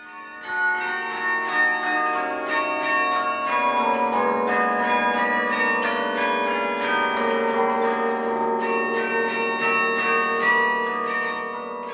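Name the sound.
carillon bells playing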